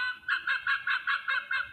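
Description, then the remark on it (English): An Arctic fox gives a fast, chattering series of about seven sharp, reedy yelps in steady rhythm, fairly loud, with no one speaking. “That was an Arctic fox, if you didn't hear me.”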